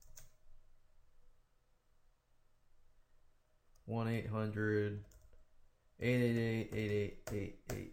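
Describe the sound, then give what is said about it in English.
Light, irregular clicks of typing on a computer keyboard as HTML hyperlink code is entered, fairly quiet, with two short bursts of voiced humming partway through. “So you can pause this video and just look at what I am typing in here.”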